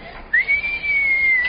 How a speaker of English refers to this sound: What is it? What's what? You whistled.